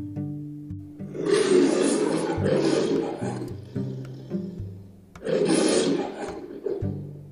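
lion roaring loudly

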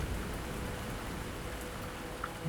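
heavy rain pouring

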